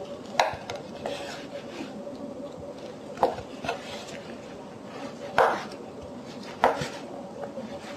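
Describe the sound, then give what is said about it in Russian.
A knife dices vegetarian sausage into small cubes on a cutting board, with four crisp, irregularly spaced chops and a few softer taps over a low, steady background hum. No one speaks. “Начинаем с вегетарианской колбаски. Режем ее на маленькие кубики.”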